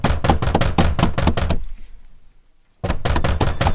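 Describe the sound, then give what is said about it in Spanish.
Police pound loudly and rapidly on a door, a quick barrage of hard knocks, a brief silent pause, then another urgent burst of banging. Forceful, with no voices. “¡Ábrele la puerta! ¡Somos la policía! ¡Andamos buscando a Toño! ¡Abre la puerta!”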